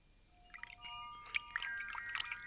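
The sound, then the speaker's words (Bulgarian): A small brook babbles and trickles quietly, with bright bubbling plinks of flowing water building up after a soft start and continuing steadily. No one speaks. “Чухте ручейче.”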